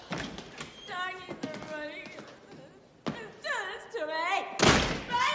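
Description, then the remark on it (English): A woman stumbles in, opening a front door that bangs, and slips to the floor, with several dull thumps and a final noisy crash, mixed with wordless wavering vocal sounds like groans or moans. “She opens the front door and slips to the floor.”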